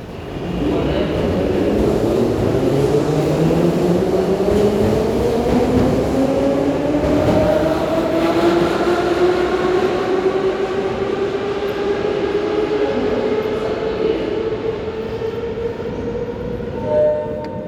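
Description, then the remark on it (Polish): An electric train pulls away from a station, its motors whining in a steadily rising pitch as it accelerates over a deep, continuous rumble, loud throughout. “Tak, dopóki nie odjedzie pociąg.”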